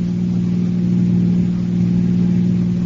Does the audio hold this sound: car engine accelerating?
yes